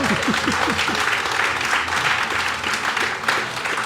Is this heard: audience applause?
yes